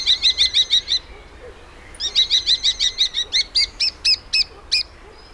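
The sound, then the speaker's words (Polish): A starling calls in quick, repeated whistled notes around a high pitch, first a fast burst of about eight, then after a brief pause a longer series that slows into separate fluty, rising whistles. No voices. “Tak, to odzywają się bardzo różnorodnymi głosami. To są różnego rodzaju pogwizdywania, flety, nawet takie pomrukiwania.”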